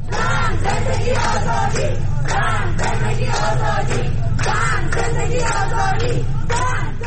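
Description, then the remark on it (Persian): A large crowd of protesters in the city of Rasht, on the third day of nationwide demonstrations, chants slogans against the government in loud, rhythmic bursts, many voices shouting together in repeated phrases with steady roaring noise underneath. “شهر رشت در سومین روز تظاهرات مردمی در کشور نیز صحنه حضور گسترده مردم و شعارها علیه حکومت بود.”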